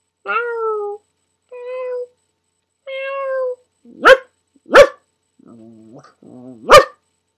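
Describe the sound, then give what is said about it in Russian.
A voice imitates a cat, giving three drawn-out meows, then switches to several short, sharp bark-like yelps mixed with lower, rougher growling sounds, all fairly loud. “Не знаю, могу ли я озвучить кота.”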